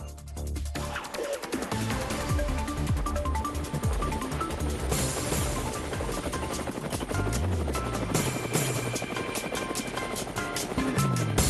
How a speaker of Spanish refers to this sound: Bueno, nos vamos ya. El helicóptero anuncia que nos vamos siguiendo a nuestra colega Exilda Arjona.